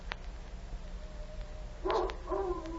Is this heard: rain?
no